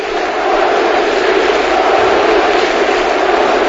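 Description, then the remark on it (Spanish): A huge crowd of Athletic Club de Bilbao fans chants "Atleti, Atleti" and roars together in a stadium during a final against Barça. The dense, loud, continuous wall of voices holds steady for the whole stretch, with no single voice standing out. “Tremendo, tremendo el grito, escuchamos.”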